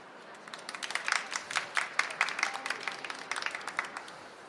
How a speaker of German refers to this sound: Sie hätten für die Übersetzung noch länger klatschen können, aber das ist in Ordnung.